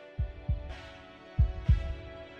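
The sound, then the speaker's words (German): Two heartbeats thump in a steady lub-dub rhythm, each a pair of deep, muffled pulses, over a soft sustained hum with a faint swelling airy wash. “Außerdem erhöhte sich ihr Blutdruck und Herzschlag enorm.”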